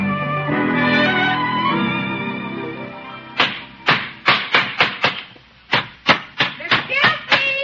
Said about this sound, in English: Is that you hammering away? Yep. I'm building a little house for the puppy.